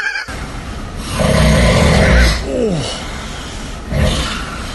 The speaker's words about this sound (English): General snoring, into a sleep moan, into a sleep babble, into more snoring and moaning. General snoring, reporting for duty.